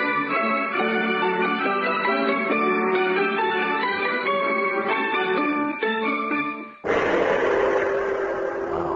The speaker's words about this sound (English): To ask you not to gong like that. Oh, well, it's yeah. Like right in my ear, man. Well, I was just trying It's too piercing, man. It's too piercing. Well, see, the gong was to separate me from the commercials you just heard.